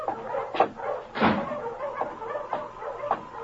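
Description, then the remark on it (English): A team of husky sled dogs barking, with several sharp, irregular barks overlapping one another at moderate loudness over a steady background hum, with no talking. “Why, the finest team of dogs I've ever seen.”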